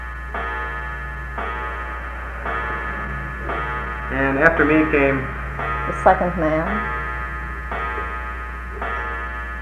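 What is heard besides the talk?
clock ticking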